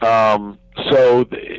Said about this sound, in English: that was my cell phone with the theme from Cowboy Bebop as the ring